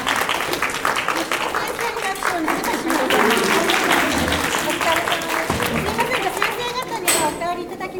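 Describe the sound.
A group applauds steadily for about eight seconds, a dense, even patter of many hands clapping at once, with some voices and chatter mixed in underneath.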